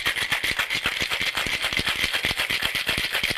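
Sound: ice rattling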